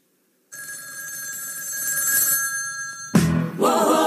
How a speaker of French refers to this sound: C'est le réveil par téléphone.